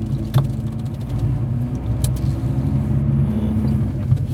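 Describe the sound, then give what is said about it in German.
A car engine rumbles steadily as a car drives by up ahead in pouring rain, a low droning hum throughout with a couple of brief sharp ticks and no talking. “Da vorne fährt ein Auto.”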